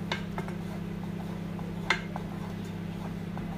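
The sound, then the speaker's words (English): Light metallic clinks and soft scrapes of a utensil stirring beans in a pan while a sieve is handled, with one sharper clank midway, all over a steady low kitchen hum; no one speaks. “Give the beans a stir. A sieve now.”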